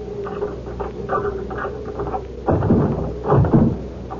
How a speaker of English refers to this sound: Now, open the door with your key.